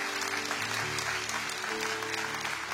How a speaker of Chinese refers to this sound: 再一次给自己一个的掌声，谢谢大家。